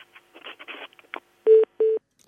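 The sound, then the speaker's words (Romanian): Telephone line noise with faint clicks and crackles, then two loud steady electronic tones, each about a quarter second long, heard alone as the call fails to connect. “Nu reușim să luăm legătura. S-ar putea să fie o defecțiune la telefonul nostru.”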